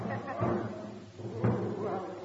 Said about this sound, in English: Look, it's a military gentleman walking up the line. And he's banging a drum.